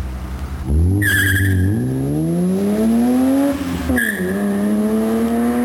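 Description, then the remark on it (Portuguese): A BMW car's engine roars under hard acceleration during a test drive, its pitch climbing steadily, dipping at a gear change, then rising again, while sharp tire squeals cut in at the start and after the shift. “O Chevette tem que pisar muito, esse aqui eu fui pisar, você viu o que aconteceu, né?”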